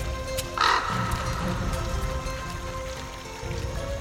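A single short, harsh call from a bird flying over a river rings out near the start, then fades into a steady wash of flowing river water that continues to the end with no talking.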